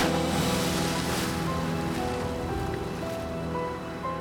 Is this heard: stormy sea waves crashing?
yes